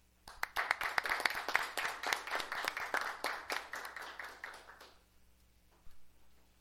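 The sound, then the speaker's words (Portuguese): A round of applause from city councillors at a council session, given in homage to a local man: dense overlapping claps lasting about five seconds before fading out, followed by a brief quiet tail with a single faint tap. “eu pediria aos nobres colegas vereadores, senhora presidente, uma salva de palmas ao seu Hugo”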